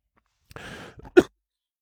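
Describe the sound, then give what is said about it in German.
A short coughing fit: a long, breathy rasping intake of air, then a couple of small coughs and one sharp, loud cough burst, with no talking. “Kurze Hustenattacke, ich hatte vorher gewarnt.”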